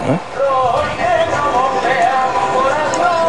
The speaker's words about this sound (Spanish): Escuchamos el himno del Cartaya, ¿eh?